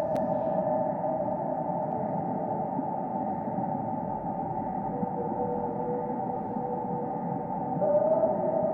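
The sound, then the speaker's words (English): A blue whale's song: a sustained, low, droning moan with steady tonal hum, continuous and fairly loud throughout, heard alone with no voices, with a faint rising whistle near the end. “This song I'm playing is the blue whale.”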